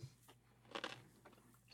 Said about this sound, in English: I'm going to bite into the pickle and you're going to hear it. I did not use the pickle during most of this audio, just FYI, but I'm going to totally crunch into it now. That's my supper.